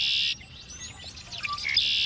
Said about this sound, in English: Red-winged blackbird.